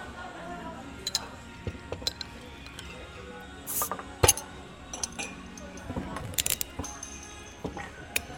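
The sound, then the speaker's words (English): Soju and beer bottles being opened: a string of small clicks and ratcheting cap twists, with a couple of sharper cracks and light glassy clinks scattered throughout. “Well, shall we crack some open?”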